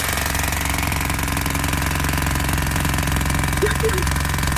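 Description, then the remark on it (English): A jackhammer pounds continuously, its rapid, steady mechanical rattle filling the whole stretch at a constant loud level. “Sounds like a jackhammer. It is.”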